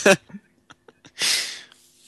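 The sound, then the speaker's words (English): A person imitates their own dog with a sharp, breathy bark-like burst, a few soft clicking snuffles, then a long, loud, hissing huff that trails off. No words are spoken. “You were imitating your dog.”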